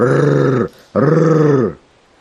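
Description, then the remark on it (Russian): Two loud, sustained bursts of engine roar, each a deep droning rumble under a second long, separated by a brief gap, then silence. “Рев моторов.”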